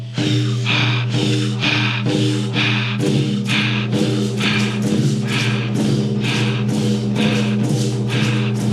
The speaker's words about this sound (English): Breathing through your mouth.